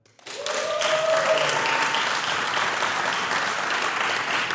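A crowd of Manta supporters breaks into sustained applause, many hands clapping densely and steadily at a loud, even level for several seconds, with a brief tonal whistle-like sound near the start.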